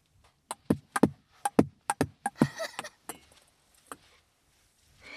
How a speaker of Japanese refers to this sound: ちょっと防音室の壁とラリーしてみよう。あ、できない。